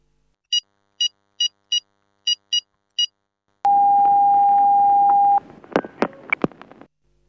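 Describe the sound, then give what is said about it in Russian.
Seven short touch-tone beeps in quick uneven succession as a telephone number is dialed in Moscow at ten in the morning, then a long steady ringing tone, followed by clattering clicks like a handset being picked up. No one speaks. “А где здесь телефон?”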